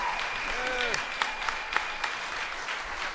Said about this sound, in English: Big round of applause. Very nice. Thank you very much. Very nice. Let's hear it.